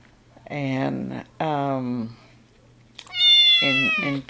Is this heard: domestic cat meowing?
yes